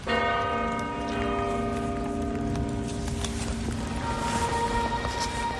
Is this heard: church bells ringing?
yes